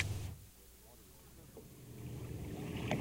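A boat motors across open water in Florida Bay toward turbid green water, its steady low engine rumble mixed with the constant wash of water and gusts of wind buffeting the microphone, continuous throughout.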